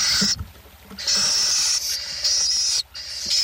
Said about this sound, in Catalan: Mussol comú, Atene noctua. Au que habita els camps oberts durant tot l'any.